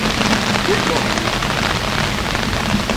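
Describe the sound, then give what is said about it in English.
Heavy, pouring rain from a band of bad weather hisses in a dense, unbroken wash of noise, loud and steady for the whole stretch with no pauses or letup. “So we'll, once it stops pouring, we'll reconvene.”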